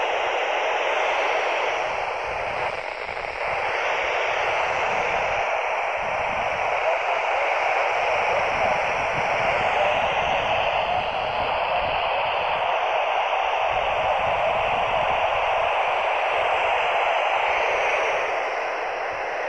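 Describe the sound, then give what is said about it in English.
Steady, loud radio static after the signal is lost hisses continuously for the whole stretch, a broad wash of noise with faint shifting tones and crackle, no voices coming through. “I lost the signal. See if we can pick it up again.”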